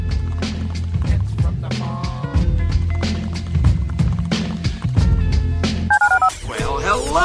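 signal or alarm, telephone keypad dialing tones

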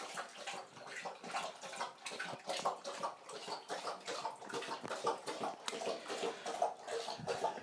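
animal, dog lapping drinking water

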